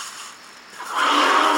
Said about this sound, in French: Un éléphant. Faut pas l'effrayer.